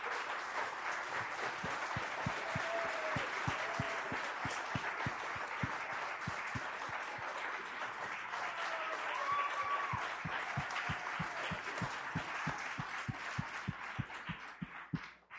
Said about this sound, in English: I'm going to tell you to come back on the stage so we can clap for you and give thanks one more time.